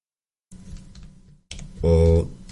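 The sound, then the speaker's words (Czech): Rapid, steady clicking of keys on a computer keyboard, followed by a short burst of voice over the continuing typing. “Otevři do prčic, nevidím klávesnici. Svou podsvícenou klávesnici písmenka, jak jsem měl kdysi.”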